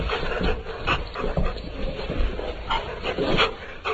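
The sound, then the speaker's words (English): A dog's laugh while at play: breathy, panting-like exhalations in quick irregular bursts, repeating for the whole stretch with no talking over them. “Is this the sound of a dog laughing?”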